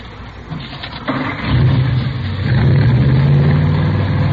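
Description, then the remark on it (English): A modified car engine with Mallory ignition, milled heads and twin Wakefields, about 120 horsepower, cranks briefly, catches with a sudden roar, then settles into a loud, rumbling, low-pitched run that swells as it revs, with no talking over it. “Here, let me start it up for you.”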